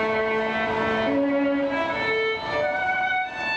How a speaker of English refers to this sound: Here's a recording of a musician in a subway station.